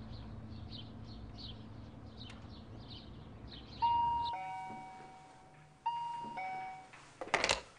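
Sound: intercom doorbell ringing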